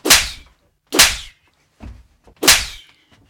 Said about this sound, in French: une bonne gifle.